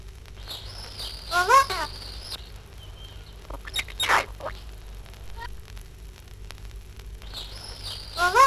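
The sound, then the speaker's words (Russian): A parrot chatters in short bursts of squawky, warbling calls, with a harsh scratchy outburst in the middle and quieter rustling between, moderately loud. “Но знают попугаи не только попугайский, коверканный и ломанный, сердитый разговор.”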